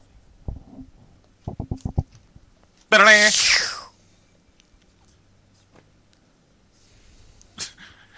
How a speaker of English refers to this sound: Including the skinless zombie dogs.